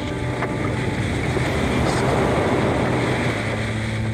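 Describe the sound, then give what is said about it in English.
Rough storm waves churn and crash steadily around a small capsized boat that is mostly underwater, tearing it apart, with heavy wind buffeting the microphone in a constant, loud roar and no voices. “The wave is tearing the boat to shreds.”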